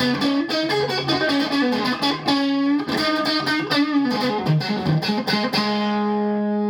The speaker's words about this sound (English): So one thing that you do is if you turn your volume knob down a little bit, you can hear there's not much distortion at all.